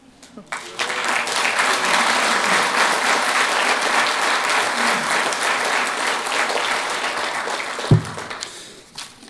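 A room full of people claps steadily for a woman who has just shared her testimony, a dense, sustained wash of applause that starts abruptly and holds for several seconds before tapering off, with a brief low thump near the end.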